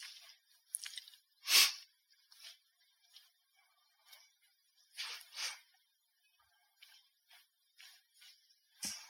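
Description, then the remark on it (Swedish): Pages of a Bible are flipped, turning to Jeremiah chapter 23: a series of soft, papery swishes at an irregular pace, one louder flick early on, then quieter rustles, with no talking. “Vi ska bläddra till Jeremia, 23 kapitlet.”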